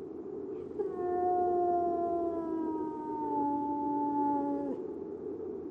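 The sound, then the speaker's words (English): A hound lets out one long, mournful howl lasting about four seconds, its pitch sliding slowly downward before cutting off, over a low, steady background rumble. “Fear then this spirit, and seek not to hear its cry, for it summons a man of Hugo's blood to his death.”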